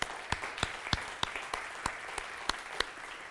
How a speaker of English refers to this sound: Hey, let's continue that applause to welcome our guests. Come on.